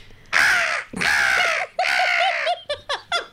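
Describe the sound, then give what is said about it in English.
A voice imitates a seagull: three long, harsh, raspy squawks, then a quick run of short yelping cries, loud with nothing else in the background. “This is the seagull. The Victorian seagull.”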